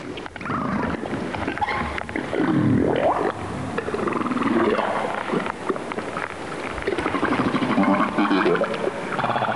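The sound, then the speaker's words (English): Humpback whale calls played underwater by researchers talking to whales: a series of long, swooping moans and rising-falling cries, fairly loud and continuous, layered over a steady wash of hissing water noise, with no voices. “That's the sound of researchers talking to whales.”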